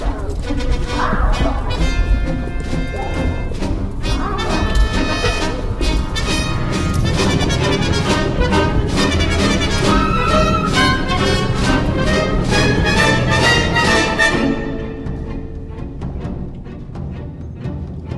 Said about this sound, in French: Soudain, au-dessus de la maison, l'air fut saturé par des hurlements et des bruits d'acier. En dessous, un silence de mort régnait.